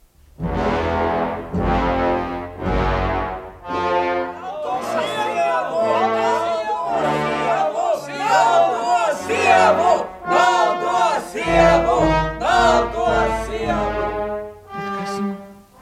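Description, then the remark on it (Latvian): A theatre audience cheers and shouts loudly and continuously with applause as the curtain closes, many voices rising in excited, chant-like bursts for the whole stretch. “un šī kliedz priekškaru, un priekškars aizšvīkst, bez zali aplausi, gavilis.”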